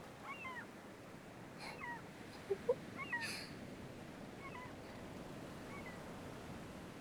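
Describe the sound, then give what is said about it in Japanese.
Gulls give several mewing, cat-like calls over the steady wash of surf; the cries come in scattered bursts, faint against the constant roar of the sea. “この鳴き声、すごく海って感じがするから好きなの。”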